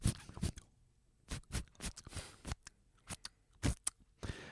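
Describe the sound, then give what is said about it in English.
Top Trumps playing cards are shuffled during a game: a series of crisp, papery flicks and snaps in irregular bursts, with short pauses between them and no voices. “You gonna shuffle your cards?”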